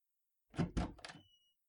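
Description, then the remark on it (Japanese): A room door is opened for someone whose hands are full carrying two warm drinks: a few quick clunks and rattles of the latch and handle, then a faint, brief creak as it swings. No one speaks. “もしもし、お部屋に入れていただきたいのですが、両手が塞がっているのでドアを開けていただけませんか？”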